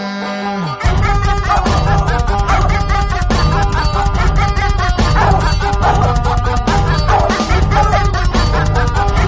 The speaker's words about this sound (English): I'm running my dog in the Tennessee Holler, listening to what he's saying.